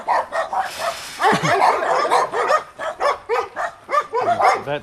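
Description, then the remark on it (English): A dog, Kai, who starred in the movie Oddball, barks loudly and rapidly, with a steady stream of short, sharp barks and higher yips, some overlapping, continuing throughout with no talking. “He does a lot of barking, so that's why he won't suit inside, but he is a beautiful dog.”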